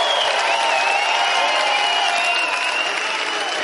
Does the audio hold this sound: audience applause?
yes